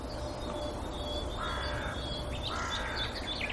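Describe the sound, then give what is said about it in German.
Two harsh, raspy crow caws ring out a second apart over a steady outdoor hiss, with a faint high bird note lingering in the background. “Und so ein bisschen zeigen uns auch die Krähen, wo der Hammer hängt.”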